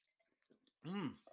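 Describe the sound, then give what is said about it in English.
Quiet, scattered fizzy crackles and small wet sounds, then a loud swallow that ends in a throaty, voiced 'ahh' after a sip of over-carbonated Clearly Canadian bottled water. “let's read a little bit more about it while we drink it”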